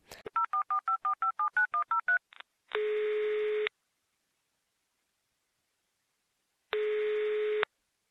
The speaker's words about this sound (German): Frau Flieger eilte zum Telefon, um die Dschungeldetektive anzurufen.